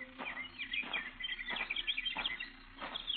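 Several birds chirp and twitter in a busy, overlapping chorus, with brighter bursts of calls roughly every half second or so over a soft, steady background. No one speaks.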